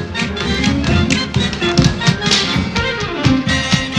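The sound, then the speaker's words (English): Tap dancing by Judy and Johnny on a stage in a hot tap dance number with high punching kicks and spins: fast, sharp clicks of shoes striking the floor in rapid, syncopated bursts, loud and continuous over a tonal musical backing. “Judy and Johnny trot up to the stage and break into a hot tap dance number.”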